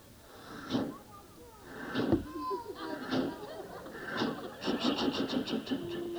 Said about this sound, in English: So here we go, all aboard the passenger train, I believe it is, instead of the freight train. So here we go. All aboard!